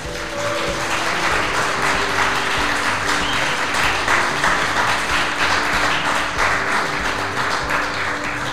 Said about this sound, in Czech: Já vás poprosím o potlesk pro Jirku Ješka.